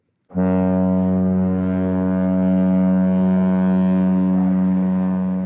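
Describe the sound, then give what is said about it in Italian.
An LNG tanker ship's horn blasts in one long, steady, deep tone rich in harmonics, starting abruptly and holding loud for over five seconds without any talking. The tanker loaded at the Cameron LNG facility of Sempra, in Cameron, southern Louisiana. “That's an LNG tanker that loaded up it.”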